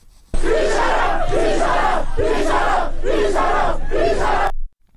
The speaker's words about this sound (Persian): ویدیوهایی نیز از دانشگاه آزاد شهر کرد دریافت شده که نشان می‌دهد دانشجویان در این دانشگاه تجمع کرده و شعار هر 1 نفر کشتشه 1000 نفر کشتشه سر می‌دهند.